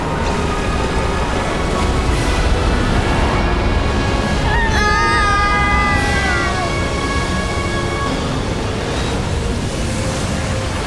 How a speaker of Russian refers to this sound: Море сомкнулось и поглотило вражеское войско.